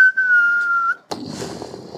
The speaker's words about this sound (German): Du sitzt da im Regen und lauscht den näher kommenden Stuckers.